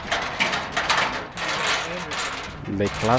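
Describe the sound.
A metal window shutter at the Angela Merkel school in Niamey is pushed open with a continuous grinding, rattling scrape and clanks, ending in a couple of squeaky, tonal creaks; a voice may be faintly audible underneath.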